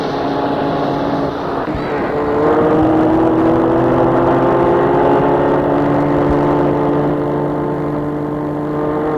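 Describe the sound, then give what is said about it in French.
The engine of a rented white four-door car runs loud, its steady droning hum rising in pitch after a couple of seconds as it revs, then holding a constant throaty rumble with no voices. “Elle le mène vers une voiture de quatre portes blanche. Entre. Il entre.”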